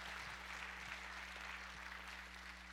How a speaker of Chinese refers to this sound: 阿们吗？阿们，拍手来鼓励我们的领袖们好吗？